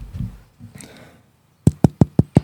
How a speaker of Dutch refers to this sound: Klop eens even op de achterkant van je broodje.